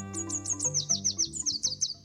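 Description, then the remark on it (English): A red warbler sings a quick, even string of about a dozen bright, high chirps, clear, over a low, steady musical hum underneath. “If you know how to distinguish it, the song of the red warbler is enough to tell you whether the morning is clear.”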